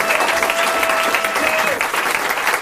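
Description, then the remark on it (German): Steady, dense audience applause fills the whole clip, a continuous loud wash of clapping hands with a faint thin tone gliding briefly underneath. “Publikum, Applaus, Bühne, Lampen.”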